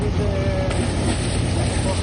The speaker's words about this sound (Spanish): Con los barcos en marcha, el sonido de mar de fondo